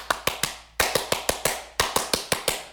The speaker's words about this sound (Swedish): Ja, jag tycker till och med att vi i Kosfamiljen kan ge dig en lite fransk applåd. Wow. Ja, vi kör. Allihopa i Kosfamiljen, är ni med? 1, 2, 3.